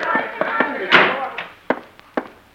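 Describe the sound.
A door swings shut with a solid thunk, followed by a few short knocks and thuds spread across a couple of seconds, with faint voices murmuring in the background.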